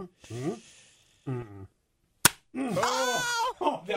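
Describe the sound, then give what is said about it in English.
A single sharp, loud slap of a tortilla against a person's face during a tortilla slap challenge cracks out between bursts of voices, followed right away by loud, excited yelling or laughter. “Okay, it's the tortilla challenge.”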